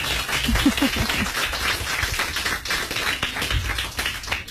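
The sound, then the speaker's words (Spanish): A group of children applauds to give thanks, with steady, dense clapping that holds at a fairly even level for several seconds, a few faint voices mixed in near the start. “Pues muchas gracias, le damos un aplauso.”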